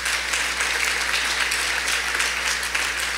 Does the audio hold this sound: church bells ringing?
no